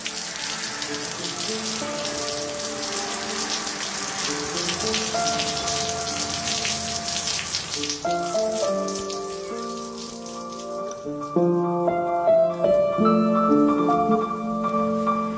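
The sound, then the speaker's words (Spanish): Steady rain falls on the flat roof of a cabin and its porch in a dense, continuous patter throughout, heavier in the first half, with sustained ringing tones layered over it and no one speaking. “Hirvió hasta rebosar mientras yo escuchaba la lluvia y tostaba un pedazo de pan en el fuego de troncos.”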